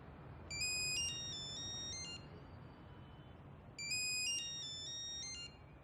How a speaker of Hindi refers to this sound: जवाब क्यों नहीं देते? क्या बताऊं, खुदा की कसम सुबह से अब तक 10 बार फोन कर चुका है। जरूर किसी ने पैसे के लिए फोन किया है। बुरी बात है, तुम फोन का जवाब तो दो, देखो कौन है।